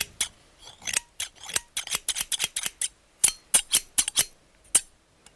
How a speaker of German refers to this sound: Man muss das Drahtgeflecht erst durchschneiden, um an die Platte heranzukommen.